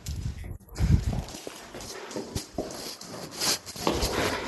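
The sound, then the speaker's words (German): An apartment door on the second floor of an old Ottoman-era building is locked with a clunk and a few metallic clicks, then footsteps patter away quickly on a hard floor as people run down the stairs, moderately loud. “Ich bitte meinen Hund, aber ich muss noch die Tür abschließen.”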